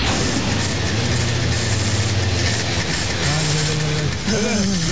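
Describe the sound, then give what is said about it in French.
An inflatable Zodiac's outboard motor drones steadily and loudly, a rough churning roar with a low humming tone underneath, while a voice briefly cuts in toward the end. “Non, nous irons en Zodiac.”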